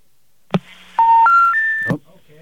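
A click on a phone line, then three steady electronic DTMF tones in quick succession, each stepping higher in pitch, ending in another click, as a telephone number is dialed. Clear, with no talking.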